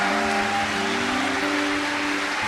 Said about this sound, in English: Let's just give them an applause tonight.